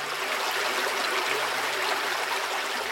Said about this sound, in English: If you walk a little further, you'll hear the sound of flowing water and will soon find the answer at a small wooden suspension bridge.